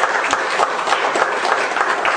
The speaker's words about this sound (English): Give the Lord a hand of applause there, God.